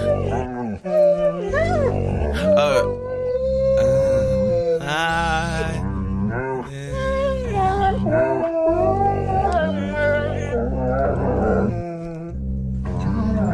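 Several dogs howl and yip together in a drawn-out, wavering chorus that loosely follows the carol Silent Night over steady musical backing, loud throughout.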